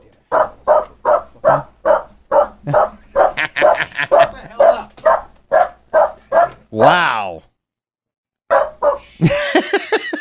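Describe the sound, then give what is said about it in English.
A dog barks loudly in a fast, steady string of a dozen or more barks, then lets out a drawn-out, wavering howl before barking again; a voice briefly speaks. “I appreciate what your dog just said.”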